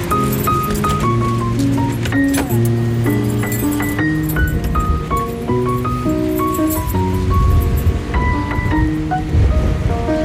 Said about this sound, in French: Et il y a du vent, hein? Oui. Il y a du vent, ouais.